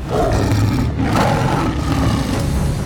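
A giant saber-toothed tiger, Hrungnir in his tiger form, roars as he swats Thor aside: a loud, deep, rumbling snarl that holds steady for about three seconds, alone with no voices.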